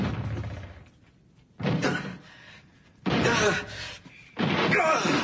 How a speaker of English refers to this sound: Look out there! I'm breaking the door down!